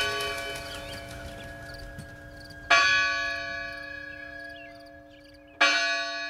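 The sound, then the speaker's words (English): A large church tower bell strikes twice, about three seconds apart, each heavy toll ringing out with a long, shimmering hum that lingers between strikes. Resonant, with no voices. “The chimes from the church tower meant that it was time to put down your tools.”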